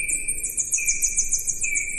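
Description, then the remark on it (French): Slowed-down bat echolocation calls: a rapid, steady series of repeated high chirping sweeps layered over a sustained lower whistling tone, giving two distinct notes, with no talking. “Et donc Gaëlle, qui a la technique, va nous passer un son d'écholocation.”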